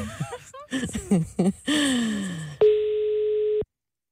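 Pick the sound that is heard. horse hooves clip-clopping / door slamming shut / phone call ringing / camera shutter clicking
phone call ringing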